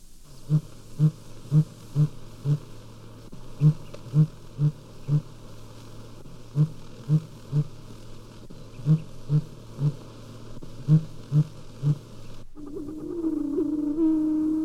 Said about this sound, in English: The hooting of the sooty grouse from the tops of the firs and spruces is a familiar sound in many parts of the Rocky Mountain area. This one was calling in Yosemite National Park.